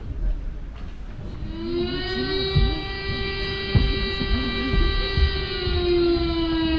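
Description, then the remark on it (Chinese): A steady, sustained air raid siren warning that enemy bombs are about to be dropped, wailing on a single high droning pitch, rich in harmonics, with a lower wavering tone and rumbling noise underneath. “是空袭警报，敌人马上就要投弹了。”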